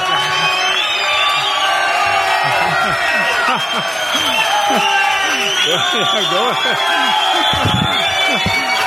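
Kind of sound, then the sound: crowd, crowd cheering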